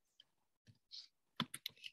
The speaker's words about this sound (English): Now typing in here